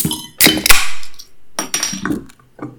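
Glasses clink together in a toast, several sharp bright taps with short ringing tails, fairly loud, clustered in quick irregular pairs with no voices.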